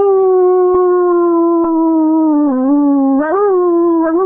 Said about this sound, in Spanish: Once lobos forman la manada. Así se han hecho presentes.